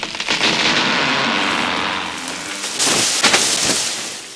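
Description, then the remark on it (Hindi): Heavy, steady rain roars throughout, and sharp thunder cracks burst loudly near the end, rolling over the downpour. No voices. “बिजलियां जोर जोर से कड़कने लगीं। फिर एक जोरदार धमाका हुआ और आम का दरख्त तूफान की ताब ना लाकर धड़ाम से नीचे गिर पड़ा।”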